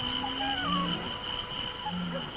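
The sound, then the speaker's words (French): A lion roars in low, rumbling bursts, two heavy grunts a second or so apart, over a steady bed of night insects and faint wildlife chatter. “Et chez les Peuls, pour que les enfants puissent s'endormir, il faut qu'ils entendent le rugissement du lion.”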